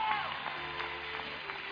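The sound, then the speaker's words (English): A church audience claps and cheers in praise to the Lord, a steady, dense wash of applause with scattered shouts and voices mixed in, fairly loud and continuous from start to finish. “Clap your hands, all you citizens. Shout to the Lord with the voice of triumph.”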